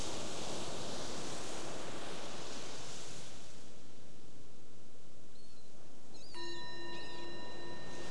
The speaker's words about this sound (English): And there's the sound of the bell. That's our invitation to transition again.